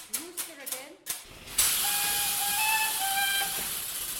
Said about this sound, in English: She directed me over to the bellows in the far corner of the room. At the right moment, a weight fell on a lever which squeezed air out of them to make the rooster crow.